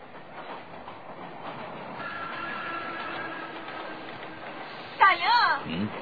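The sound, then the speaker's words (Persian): A train rumbles steadily along the rails, its sustained roll rising with a faint metallic whine before a sharp, louder burst of screeching near the end. “من مسافرها رو به دسته های هزارتایی تقسیم میکنم و قطارها رو لازم باشه به راست میفرستم، لازم باشه به چپ.”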